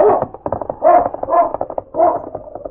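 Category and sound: animal, dog barking and whimpering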